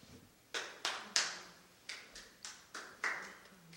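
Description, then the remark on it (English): Scattered, sparse clapping from the audience at a public community meeting in Oceano: about nine sharp, dry claps at an uneven, hesitant rhythm, fairly soft, each ringing out briefly. No one speaks. “No clapping, please.”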